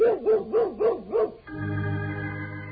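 Toby the Wonder Dog lets out four quick, yelping barks in an even rhythm, each with a wavering pitch, followed by a steady sustained drone that carries on alone.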